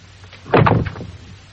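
A door swings shut with a short, heavy thud and a brief rattle of the latch, then a faint low rumble fades out. Nobody speaks.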